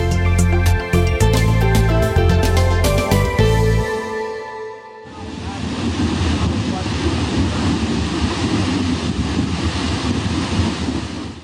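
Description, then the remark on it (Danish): After a brief musical sting, a steady, loud rushing fizz of gas bubbling out of gas-bearing shale submerged in water takes over, a dense hissing and gurgling that continues without pause. The released vapour is shale gas and is extremely flammable. “Sådan lyder det, når gasholdige skifer kommer i kontakt med vand, og den damp, der udvikles ved kontakten, er ekstremt brandfarlig.”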